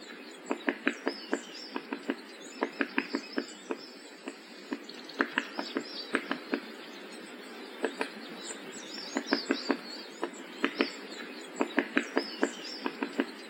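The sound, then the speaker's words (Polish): A great spotted woodpecker gives a series of sharp, short calls, repeated irregularly in loose clusters, clear, against a faint background hiss with no voices. “To najpospolitszy z dzięciołów, dlatego właśnie go wybrałem, dzięcioł duży”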